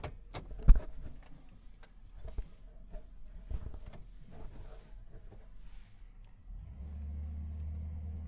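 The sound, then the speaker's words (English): A pickup truck's engine rumbles with scattered clicks and ticks, then revs up into a louder, steady low drone as it pulls away and drives off. “Come on, pick 'em up truck, go.”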